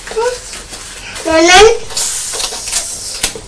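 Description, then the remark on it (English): Carbonated bottled water fizzing with a steady, crackling hiss for a few seconds, while a child's high, rising voice sounds briefly over it. “Oh, sorry, it's the noise that the bottled water makes. We don't usually have fizzy water, do we?”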